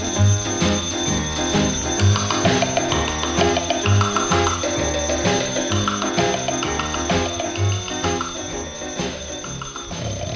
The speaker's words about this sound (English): I'm gonna get me a big sledgehammer and beat that clock till it stops that clamor. I can't stand to hear that alarm go off when I'm lying there sleeping on my pillow so soft. Alarm clock buggy, turn that nerve-wracking thing off.